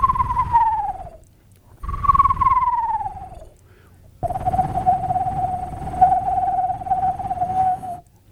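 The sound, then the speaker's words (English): A person imitates a screech owl: two quavering, descending whinny calls, then one long, steady trill lasting several seconds. Fairly loud, with no talking. “One more, the screech owl.”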